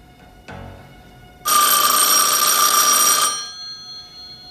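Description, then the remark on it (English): A telephone bell rings once in a loud, continuous metallic burst lasting nearly two seconds, then cuts off and leaves a faint lingering ring. “Larry makes to reach for the phone, then stops.”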